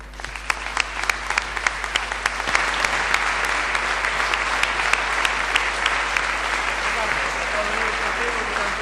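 Sustained audience applause, a dense wash of many hands clapping steadily at a fairly loud, even level for several seconds, with sharp individual claps popping out of the crowd noise.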